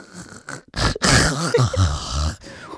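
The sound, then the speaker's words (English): A voice imitates another person's snoring with a loud, rough, rattling inhale, followed by a long gurgling, pulsing snort that wavers in pitch before trailing off into a softer breath. “Like, I have to sit here and listen to you snore, and all I ask for is this nice, like, drizzling creak.”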